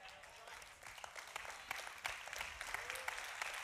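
audience clapping

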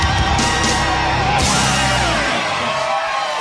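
crowd cheering wildly

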